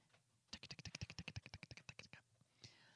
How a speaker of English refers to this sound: JT is furiously typing into the computer